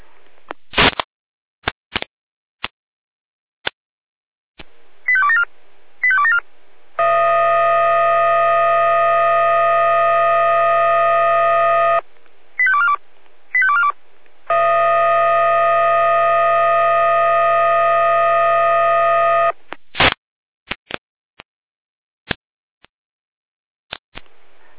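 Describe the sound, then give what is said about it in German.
Over a crackly radio channel, clicks and short warbling alert beeps give way to two long, steady siren blasts, each about five seconds, separated by more quick alert tones: fire brigade alerting from the Jena dispatch centre, Germany, calling out stations for a severe weather situation in Stadtroda. “Leitstelle Jena, Alarmierung.”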